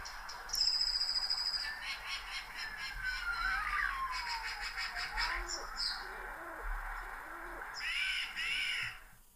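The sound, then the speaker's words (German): A recording of city-habitat birds featuring blue tit, peregrine falcon, starling, feral pigeon, mute swan, magpie and jay calling together: harsh crow-like caws, soft cooing, and high whistles and chirps, with an emergency vehicle siren wailing and gliding underneath. “Genau, und wer schnell ist, kann dann auch die jeweiligen Tiere, Vögel zuordnen, den Geräuschen.”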